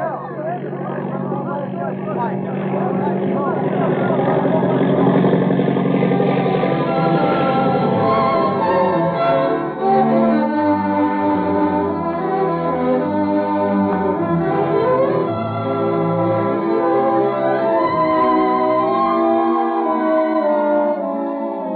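A low-flying propeller airplane, apparently flying by itself with no hands on the controls, drones with a thick, steady buzzing tone that later wavers up and down in pitch, staying loud and continuous throughout.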